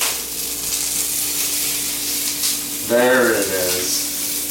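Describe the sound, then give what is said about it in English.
Food sizzles steadily in a frying pan after cayenne pepper is thrown on top, a dense crackling hiss that runs the whole time over a faint low hum, with a short burst of a voice breaking in near the end. “Listen to them fucking screaming that cayenne fucking pepper.”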